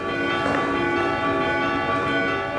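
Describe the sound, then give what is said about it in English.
Church bells ring out together in Greece for Orthodox Epiphany services, a rich, sustained wash of overlapping tones, loud and steady throughout with no pauses between strikes, their resonant hum filling the space without any voices. “church bells as the faithful flocked to Epiphany services.”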